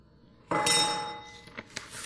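A single chime, struck to mark the playing of a video, rings out with a bright, metallic tone, its overtones sustaining and slowly fading, followed by a couple of faint light taps.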